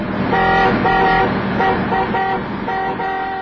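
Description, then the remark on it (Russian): A 110-ton BelAZ mining dump truck, over 6 metres wide and about 5 metres high, sounds its horn in a rapid series of short, loud blasts over a steady low engine rumble, with no one talking. “БелАЗ грузоподъемностью 110 тонн.”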